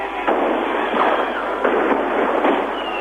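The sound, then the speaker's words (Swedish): Fireworks go off at midnight over a square full of cheering people in Leipzig, Germany, celebrating German reunification, in a dense, continuous roar of crackling and booming, with a few louder bursts standing out every second or so over the steady wash of noise. “Och vår utsända befann sig i Leipzig, där firandet började med fest och fyrverkeri vid tolvslaget.”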